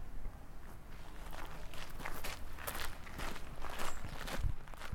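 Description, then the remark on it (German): Slow, steady footsteps walking into a bar that has been broken into, a series of soft scuffing treads repeating at an unhurried pace, with no voices over them. “Sie gehen langsam hinein.”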